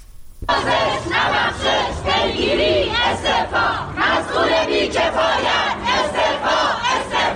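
A crowd of journalists protesting on a Wednesday in front of the Department of Environment building in Iran chants and shouts together in loud, continuous rhythmic bursts, many voices overlapping in a steady roar that starts abruptly and carries on without pause.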